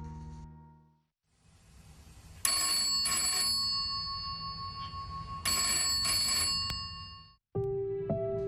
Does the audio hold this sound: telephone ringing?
yes